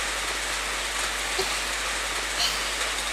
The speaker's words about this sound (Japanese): ちょっと雨の中お体が濡れてしまっては大変です。私の傘の中へとどうぞお越しくださいませ。